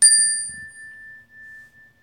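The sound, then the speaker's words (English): A single bright strike on a wooden chime instrument, its clear bell-like tone ringing out and slowly fading over about two seconds, with no other sounds around it. “That made me think of when we purchased our wooden chime instrument that we have as well.”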